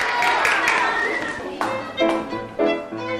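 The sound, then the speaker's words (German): A burst of audience applause in the school hall of the Ameisenbergschule in Stuttgart fills the first half. It is a dense patter of clapping that fades as two musicians begin playing clear, sustained instrument notes one after another. “Kurze Verbeugung, kurzer Blickkontakt, Stille im Publikum, Applaus und dann geht's los.”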